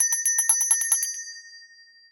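A little metal bell is rung to close a session, in a quick series of about ten bright strikes, then its clear high tone lingers and fades away over the next second. No one speaks.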